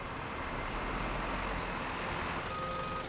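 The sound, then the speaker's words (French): A truck engine rumbles steadily while a high-pitched reversing alarm beeps in a regular rhythm, growing more distinct near the end as the truck backs up to park at a loading area. “Le camion se gara à l'aire de chargement et les hommes y mirent leur précieuse cargaison.”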